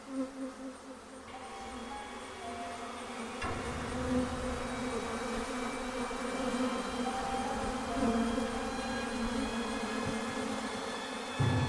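swarm of bees buzzing

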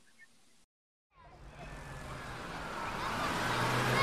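school bus engine

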